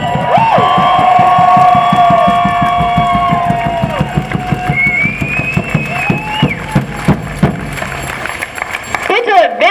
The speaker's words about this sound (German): Deswegen ist es toll, dass ihr heute alle hier seid. Applaus!